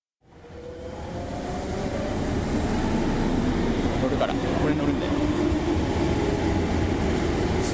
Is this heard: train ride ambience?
yes